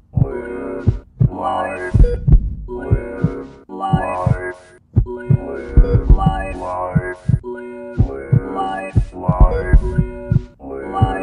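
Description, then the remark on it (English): A loud, pounding heartbeat thumps in a steady, insistent rhythm, each heavy beat followed by a brief humming throb, repeating for about eleven seconds with no one speaking. “Stay in sticky blood, deep in tachycardia. Dharma's drummer pulsates, sage advice, indwell-vate.”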